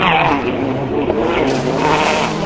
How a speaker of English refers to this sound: You can hear them there. The car struggling to grip as they take that quite tight. 180 degree left hand bend towards the bridge.